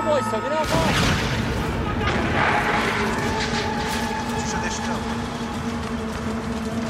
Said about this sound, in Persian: جناب سرگرد، ماشین منفجر شد.